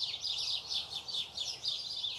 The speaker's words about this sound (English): Can you hear the birds? I think it was said of St. Francis of Assisi that he used to preach to birds. That's definitely what I'm doing just now.